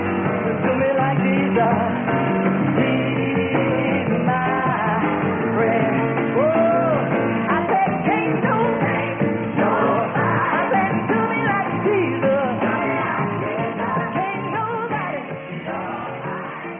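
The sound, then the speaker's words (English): A lively crowd of young people clapping, yelling and applauding nonstop in the background, loud, with excited voices blending into a dense, continuous roar for the whole stretch. “So you can see from that example that those young people clapping in the background and yelling and applauding and that sort of thing are simply being affected by the emotion of what's going on.”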